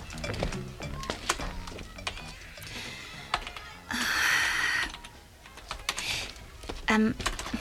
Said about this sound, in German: Ist das Programm abgestürzt oder weshalb tippst du so unentwegt auf der Tastatur herum?